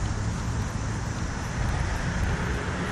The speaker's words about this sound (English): It's pretty windy today, so hopefully these wind screens will prevent a bunch of noise in the mics.